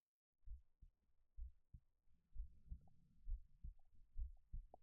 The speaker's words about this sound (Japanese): ご主人様、聞こえていますよね。さっきの心地のいい心音。今度はこっちのお耳から聞かせてあげますね。